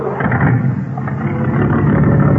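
A black car rumbles loudly past, its deep engine noise steady and slightly swelling toward the end, with no voices present.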